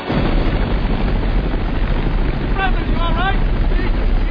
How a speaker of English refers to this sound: Now, Bruce McGill, who plays the National Security Advisor, told me that when they were shooting the scene, the sound of those helicopters was so overwhelming that not only could he not hear Jamie Cromwell, who was standing next to him, he said